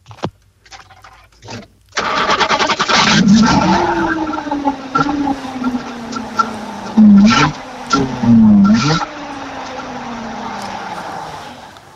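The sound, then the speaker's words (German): After a few faint clicks, a Barkas Kombi van's engine catches abruptly on a cold start, with the choke pulled and clutch pressed as the key is turned. It runs loud and rough, with two quick revs before settling into a steady, buzzy idle. “Das war ein Barkas Kombi.”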